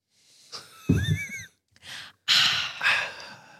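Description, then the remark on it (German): Someone takes a quick sip of water from a bottle: a brief gulp with a faint squeaky whistle, followed by several loud, breathy exhalations and gasps. “Ich trinke direkt mal einen Schluck aus meiner R ab. Da ist nur Wasser drin.”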